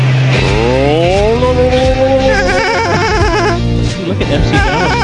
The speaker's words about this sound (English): The boat motor almost started that time.